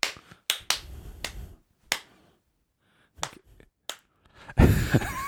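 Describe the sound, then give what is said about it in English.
A series of sharp, crisp hand claps at uneven intervals with short pauses between, ending in a denser, noisier flurry of clapping. No voices are heard. “Did you have those school assemblies with the last clap?”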